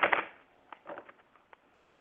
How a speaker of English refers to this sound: Okay, so I'm going to start shuffling the cards, and you tell me when to stop.